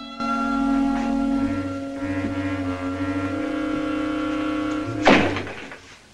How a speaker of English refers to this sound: Later, he staggers into the darkened apartment, reaching unsteadily to the wall for a light switch. As he fumbles unsuccessfully, the door slams shut.